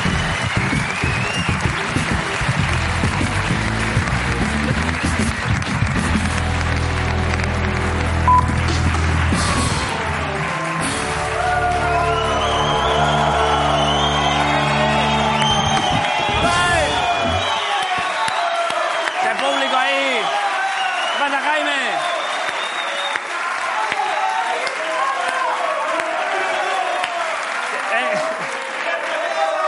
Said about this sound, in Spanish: Vale, un aplauso a lo que venga después.